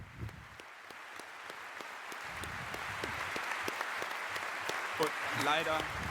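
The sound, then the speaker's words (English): A crowd at a congress claps steadily, a dense patter of many hands that holds for several seconds and swells a little toward the end, with faint voices murmuring underneath. “And so let's give a great applause to him.”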